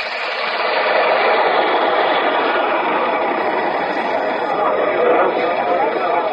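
subway train rumbling

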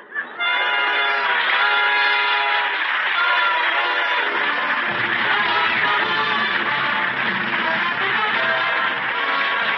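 train running with whistle

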